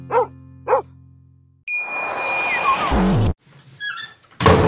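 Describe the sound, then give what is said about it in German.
A box lid shuts with a loud, abrupt slam at the end, preceded by two short dog barks, a bright metallic ding and a clattering rattle. “Hoppala, die Kiste ist zu.”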